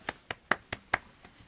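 Brief applause made of about six crisp, evenly spaced hand claps in quick succession, moderately quiet, the last one fainter, with no talking, given to invite a live song performance with three acoustic guitars.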